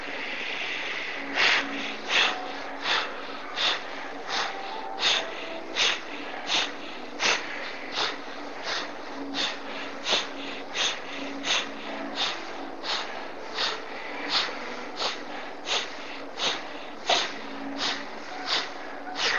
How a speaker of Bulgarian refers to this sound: Просто дишкай. Дишане, което носи заряд, сила, пусни контрола и стани едно дете, което диша радостно, на игра. Дишане на шега. Бастрика, дишане. Хайде, продължавай.